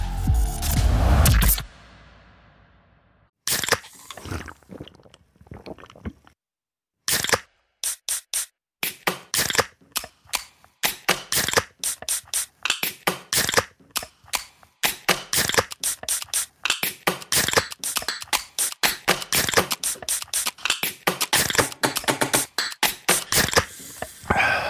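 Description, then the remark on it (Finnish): A Finnish Karhu beer is opened with a loud burst of hiss at the start, followed by a long stretch of sharp, irregular clicks and crackles, with no voices. “Suomalainen äänen avaus. Ja suomalainen olut.”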